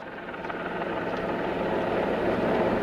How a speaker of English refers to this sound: At 5:43 p.m., the helicopter flew there, then picked up the stranded hikers and returned them to the trailhead. The helicopter was then due to fly back to Lost Hills to pick up the coroner's office personnel.